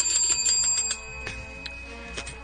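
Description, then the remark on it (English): Two bells ring together in a rapid, overlapping clatter of bright metallic strikes, louder for the first second and then continuing a little softer. No one speaks. “Dueling bells. We rarely get a dual beller.”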